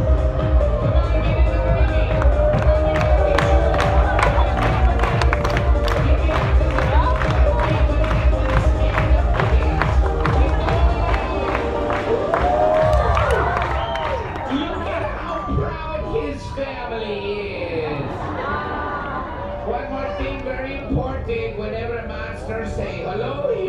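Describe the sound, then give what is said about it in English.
A large crowd roars with cheering, shouting and screaming, loud and dense for about thirteen seconds, then easing into a lower, still busy crowd noise with scattered voices. “This is a very good crowd, and don't fight it!”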